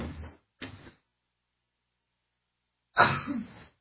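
A single loud sneeze bursts out during a communion service, after a couple of brief, softer rustling sounds and a short pause, with no talking.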